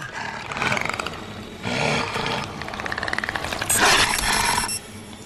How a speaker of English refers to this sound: The alarm on Sam's watch goes off. The demon rushes back towards them. Sam struggles to take the watch off and then flings it into the nearby dirt.